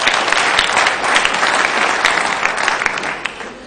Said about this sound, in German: Gut. Ja, genau, ein Applaus.